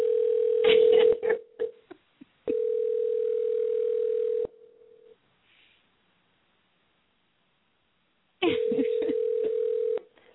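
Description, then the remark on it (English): A phone line's ringing tone on a call placed to a man, steady, mid-pitched buzzing tones, about two seconds each with long silent gaps between, with crackly clicks and line noise over the first and last rings. “Let's see if he'll answer the phone.”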